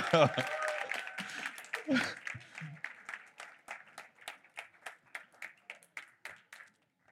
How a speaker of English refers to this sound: Okay. Let's keep that applause going.